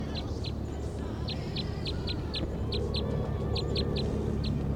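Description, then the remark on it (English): A wild bird, an orange male, gives a string of short, high, clipped clucking calls, about a dozen in quick uneven bursts, heard over a steady low background rumble with no talking. “This is a wild bird. Orange male.”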